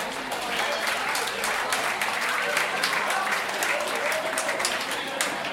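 A crowd at an awards ceremony applauds steadily for several seconds as a judge is invited on stage to present an award, dense overlapping claps at an even, sustained level without any voices standing out.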